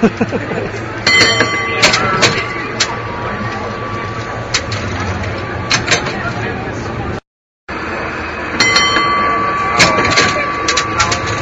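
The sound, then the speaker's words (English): Riding on the outside of a moving cable car: a steady mechanical rumble and rattle with high metallic squeals and sharp clicks, cut by a brief moment of silence partway through. “So this is what it sounds like to be hanging out on the outside of a cable car.”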